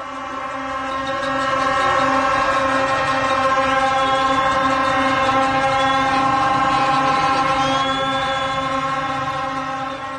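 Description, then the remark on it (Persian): Many horns blare together in a loud, unbroken drone for the whole stretch, their overlapping tones swelling slightly, with a dense crowd murmur underneath and no clear speech, from a crowd of people of various ages waiting to board buses, all blowing horns. “سکوت کرد و گفت گوش کن، و من فقط صدای بوق شنیدم.”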